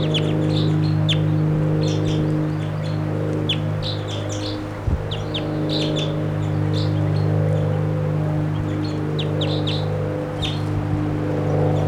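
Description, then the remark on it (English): A wild bird in a tree right above a camp chirps and calls repeatedly in quick, high-pitched bursts over a steady low mechanical hum, like an idling engine. One brief thump sounds partway through. “Wild bird.”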